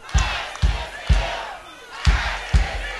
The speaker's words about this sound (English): At one point, the crowd spontaneously began chanting.